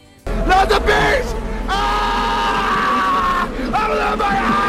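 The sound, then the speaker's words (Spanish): Actor Nicolas Cage screams loudly in long, strained bursts in a film clip, his voice breaking and wavering, over a low rumbling background with some crowd-like noise. “¿Qué decir de, también de sus alaridos?”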